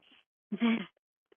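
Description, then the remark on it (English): A single small, quiet sneeze, a brief soft burst lasting under half a second, preceded by a faint breathy intake and followed by near silence. “Sounded like a mouse sneeze. Sounded cute. Yeah, small.”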